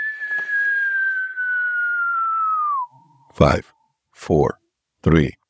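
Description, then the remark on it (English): A voice imitates the whistle of a falling bomb: one long, steady, descending whistle for about three seconds, followed by a few short spoken bursts. “And you would hear these whistling sounds.”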